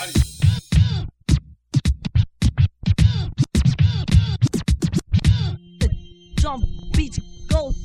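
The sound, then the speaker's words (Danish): Rapid DJ turntable scratches, using stretch, cut and transform techniques, cut back and forth in choppy, rhythmic bursts, with sharp pitch sweeps rising and falling over a steady low beat, loud throughout. “Jeg kan stretch and cut and transforme, hvis I ved hvad det er.”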